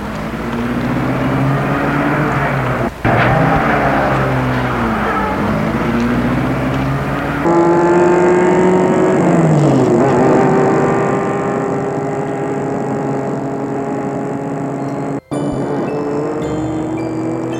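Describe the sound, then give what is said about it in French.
A chauffeur starts a black car, and its loud engine runs steadily, its pitch rising and falling as it revs and drives, with a few abrupt cuts in the sound and no talking. “Et le chauffeur rentre dans la voiture. Puis, il met la voiture en marche.”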